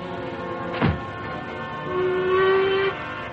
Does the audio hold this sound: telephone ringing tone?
no